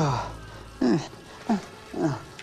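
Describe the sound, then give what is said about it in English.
A man's voice growls like an animal in three short, rough bursts with brief pauses between, moderately loud, with no spoken words, in a men's toilet. “Growling.”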